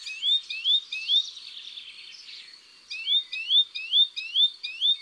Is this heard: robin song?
yes